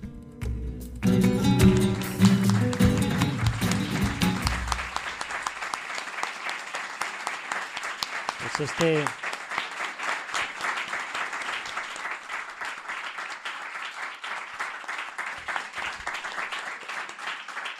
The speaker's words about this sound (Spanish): Este es el aplauso que se lleva a Mariano.